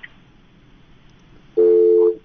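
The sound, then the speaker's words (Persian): After a stretch of faint line hiss, a loud, steady telephone tone sounds for just over half a second and then cuts off as a listener's phone call is disconnected. No one speaks. “فکر میکنم تماس ما قطع شد.”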